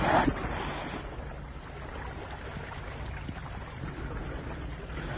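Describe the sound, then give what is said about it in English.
A steady wash of ocean water and wind surrounds a boat being piloted back to harbor, with a low rumbling undertone and a brief splash or knock at the very start. No one speaks. “Hey, it's 11 and I have to pilot this boat back to harbor.”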